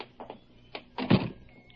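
door opening and closing

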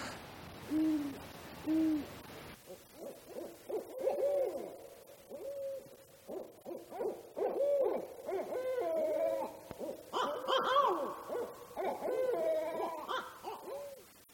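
owl hooting

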